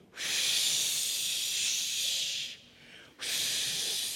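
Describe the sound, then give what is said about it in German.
A voice imitates howling wind with a long, breathy whooshing hiss, then a short pause and a second gust. Fairly loud, with no talking. “Wie klingt der Wind? Der Wind klingt so.”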